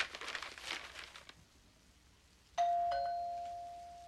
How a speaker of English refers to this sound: They look astonished by the sound of the doorbell.